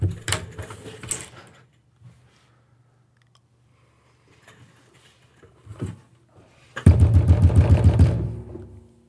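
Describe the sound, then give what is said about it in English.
A loud burst of rapid knocking on a door, about eight quick raps in a tight rhythm, preceded by a few scattered softer thumps and quiet room noise. “Knock on my door.”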